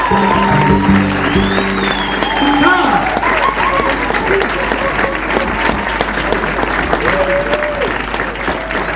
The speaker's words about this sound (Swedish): Ja, en stor applåd till Sigge Kranz.